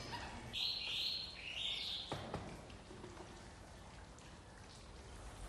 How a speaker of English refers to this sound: This is a fountain room here. Oh, it's beautiful.